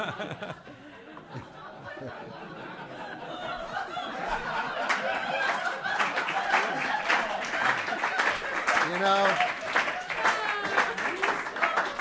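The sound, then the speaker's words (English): Audience applause builds over several seconds into steady, dense clapping, mixed with crowd chatter and bits of laughter, while a voice briefly speaks at the start. “if you're going to applaud for that stuff, they're just not going to try any harder.”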